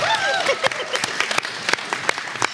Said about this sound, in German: Applaus bitte.